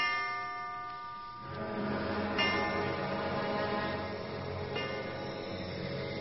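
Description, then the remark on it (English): Deep church bells toll in a slow, steady rhythm, each heavy strike ringing out and overlapping the long hum of the previous one, fairly loud and resonant, with no voices. “I dreamed church bells were tolling my death.”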